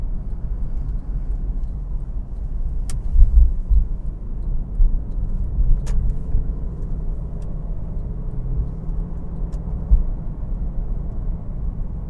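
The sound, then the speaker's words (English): A car drives steadily, its deep, continuous engine and road rumble filling the whole stretch, with a few faint sharp clicks now and then and no voices. “Yeah, it's going to be hard to get a good hit in on this car.”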